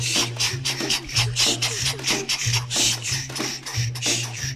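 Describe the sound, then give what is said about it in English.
Voices imitate a train, making a steady run of breathy, rasping chugs, roughly two per second, over a low droning hum, fairly loud and with no words. “Let's make the sound of a train, the beautiful sound of a train.”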